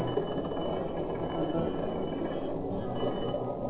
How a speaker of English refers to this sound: Hey, what's that noise out of the water dead ahead, sir? It's a submarine. A submarine? So that's what did it.